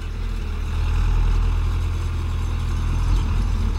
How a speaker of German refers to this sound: Gerade fährt Elia um ein großes Blumenbeet herum. Auf einem Quad, das ist so eine Art Motorrad mit vier großen Rädern.